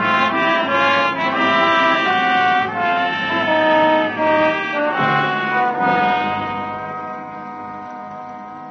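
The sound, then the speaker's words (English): A train horn sounds a long, sustained chord of several pitches, holding loud and steady for most of the stretch before gradually fading away at the end. No one speaks. “Train is coming.”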